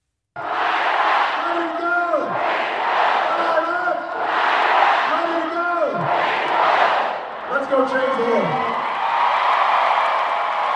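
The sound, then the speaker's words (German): About 25,000 mostly young and Black spectators at a Barack Obama primary campaign rally in the football stadium of Columbia, South Carolina, chant 'Ready to go, fired up' in unison, repeating it in a steady rhythmic cycle about every two seconds, loud and echoing. “Die 25.000 meist jugendlichen und schwarzen Zuschauer, die sich trotz beeindruckender Zahl im großen Betorund des Football Stadium von Columbia in South Carolina etwas verlieren, skandieren begeistert zusammen mit ihrem großen”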